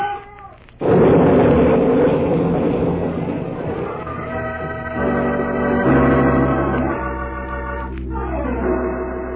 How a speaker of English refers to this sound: With Bull Corbett almost in his grasp, Mark Trail is helpless as the logging train crashes into the river.